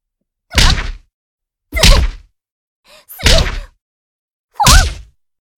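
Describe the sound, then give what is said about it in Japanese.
A series of heavy punch impacts, five straight punches to the face: four loud thudding whacks spaced about a second apart, with a faint short hit just before the third, and no voices. “じゃあ最後、顔面にストレート5発いくね。”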